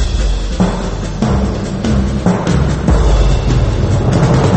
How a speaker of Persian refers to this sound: توجه علامتی که همتون می‌شنوید اعلام خطر یا وضعیت قرمز است.